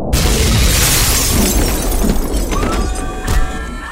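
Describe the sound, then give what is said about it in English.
A loud crash of crunching metal and shattering glass bursts in at once as a machine that leapt off a building lands on top of an ancient car at the curb, a dense wash of debris noise that rattles on, with metallic ringing tones and a final clatter near the end. “The 9mm slugs tracked the machine's descent until it crashed in a riot of crunching metal and shattered glass on top of an ancient car at the curb.”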